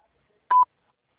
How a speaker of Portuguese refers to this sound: Por favor, diga seu nome após o bip.